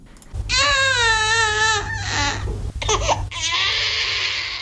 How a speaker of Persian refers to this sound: گریه کودکی که 3 روز می شود به دنیا آمده است، اما معلول و سوء شکل.